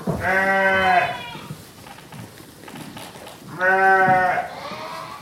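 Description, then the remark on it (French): Two loud, wavering bleats from ewes and lambs on a mountain sheep farm in La Bresse in the Vosges, France, one at the start and another a few seconds later, with softer farmyard murmur and other animal noise filling the gap between them. “Bah, comme vous pouvez le voir sur place, il y a des brebis, il y a des agneaux.”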